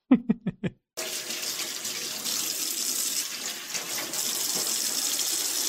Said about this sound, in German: Ja, okay, also so wie es aussieht, hat er da jetzt nichts extra benutzt, sondern wirklich nur Wasser drüber laufen lassen. Wäre mir ein bisschen wenig, aber gut.